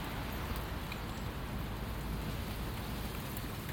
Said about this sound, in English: Oh my goodness. Back to the storm winds and rain.